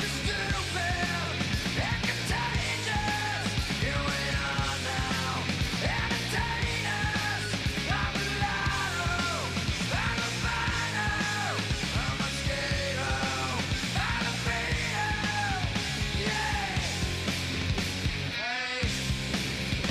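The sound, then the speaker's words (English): A loud grunge rock chorus with raw, shouted vocals straining over dense distorted guitars and pounding drums, played continuously at full volume with a brief break near the end. “… was a song that parents were going to hate. It didn't make sense. You couldn't understand the words”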